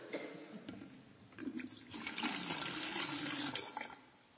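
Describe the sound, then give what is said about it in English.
Water pours steadily into a container for a few seconds, a continuous splashing gurgle that swells in the middle and tapers off at the end, with no voices. “Make sure I don't spill this. You need to hear this.”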